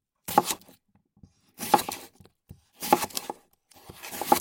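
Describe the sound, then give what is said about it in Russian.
A knife slices raw potatoes into even sticks for French fries in four separate strokes about a second apart, each a crisp scraping crunch with brief pauses between and no talking. “Картошку для этого надо нарезать ровненькими брусочками.”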